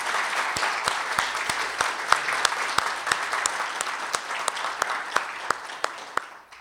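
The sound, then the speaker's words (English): A crowd gives another round of applause for a group of men and women, a dense wash of many hands clapping with sharper individual claps popping out in a loose rhythm, then fading toward the end. “Let's give these guys and these ladies another round of applause.”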